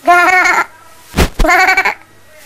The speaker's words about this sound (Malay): Kambing.